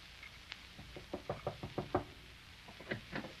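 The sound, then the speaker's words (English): A rapid series of firm knocks on a door in a house, about eight raps in quick succession, followed after a short pause by a few more knocks, with no voices. “Opportunity never stops knocking in this house. That's Irene.”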